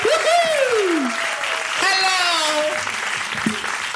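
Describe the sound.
Steady crowd applause welcoming a guest onto the stage, dense and continuous, with a few loud voices whooping and cheering over the clapping.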